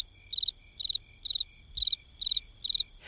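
A single cricket chirps steadily, six evenly spaced trills of three or four quick pulses each, clear over a quiet, low background hum, with no voices.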